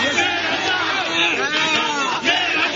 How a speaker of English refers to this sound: President Mahinda Rajapaksa stepped off his aircraft on his return from Jordan to the cheers of supporters who hailed him as a national hero.